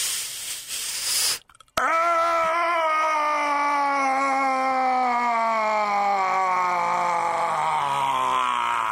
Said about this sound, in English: But we want that big open space because it leaves more room for the scream to resonate. So you have to open your mouth really big while you're doing it and combine.